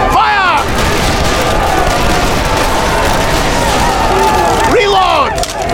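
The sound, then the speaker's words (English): A dense, continuous roar of musket volleys fired by Dragoons at charging Pawnee warriors in tall grass crackles loudly for several seconds, with raised shouting voices cutting through at the start and again near the end. “Prepare to fire by volley.”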